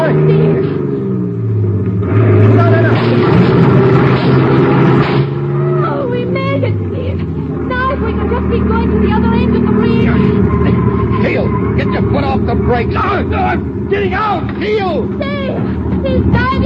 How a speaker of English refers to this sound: Step on the gas, Teal. We're going to crash that barricade on the bridge.